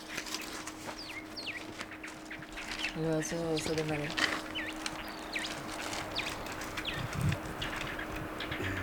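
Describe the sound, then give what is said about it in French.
Small birds chirp repeatedly in quick, high bursts throughout, over a steady low hum with a brief voice-like call partway through, in the Elqui Valley, Chile. “Petit oiseau.”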